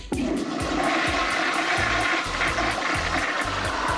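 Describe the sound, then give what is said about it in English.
A toilet flushes with a loud, steady rush of water, broken by a regular pattern of low pulsing thumps underneath. No one speaks. “3 flushes is a clog, and it goes something like this.”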